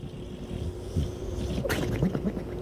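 A dog snoring: a steady, low, rough rumble with a gurgling texture and one sharper, breathy snort partway through, with no talking.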